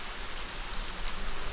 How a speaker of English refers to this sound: Rainfall rejuvenates the arid land. Grass grows lush. Wildflowers spring forth. Gullies once dusty now rush with water.